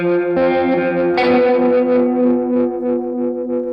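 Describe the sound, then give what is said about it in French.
Electric guitar played through a tremolo pedal whose built-in reverb, set with the fourth knob, is turned all the way up: a wobbling tremolo effect washed in reverb, sustained chords pulsing in steady waves, loud, with no one talking. “pour augmenter l'effet trémolo, on a une petite réverbe inclue à l'intérieur, qui est justement paramétrable avec le quatrième potard”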